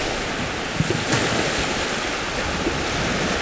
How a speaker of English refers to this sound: All right, it's a bit windy. You can see the gulls riding the currents of air above the waves.